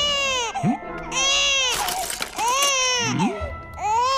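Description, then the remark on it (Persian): A baby cries loudly and close by in repeated wailing bursts, rising and falling with brief catches of breath and whiny sobs between them. “گرسنه بودن یا بچه گرسنه همیشه نق میزنه.”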